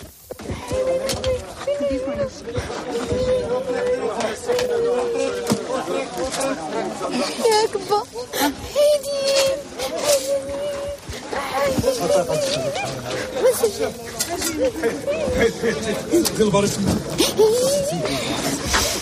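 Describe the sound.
Several family members cry and wail together at a funeral as the body is carried out, sustained, wavering sobs with overlapping murmurs and moans from a crowd continuing steadily throughout.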